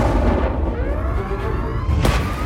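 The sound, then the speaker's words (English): A deep, heavy rumbling blast fills the space, with low booming energy throughout and a sharp burst near the end: an enormous explosion shaking a submarine, the blast concentrated inside its reinforced hull. “The Scorpion shudders as an enormous explosion shakes the boat.”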